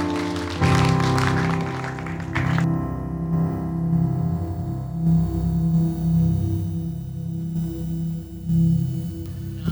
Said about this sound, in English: Why don't you give him another big round of applause?